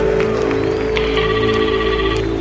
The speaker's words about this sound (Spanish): Suena un teléfono. Hostia, es verdad. Se ve una cabina de teléfonos en el escenario. Hay un tipo dentro que está a punto de descolgar.